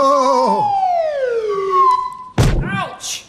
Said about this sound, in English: How did you find me in the dark? Playing that swanny whistle gave your position away.